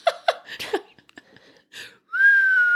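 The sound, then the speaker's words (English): A few short breathy puffs, then a person whistles a single sustained high note that slides slightly downward, imitating a squeaky, high-pitched fart. Fairly loud, with no talking. “Whistle bottom. That's what I should have to hear. But then I was like, that's like a fart.”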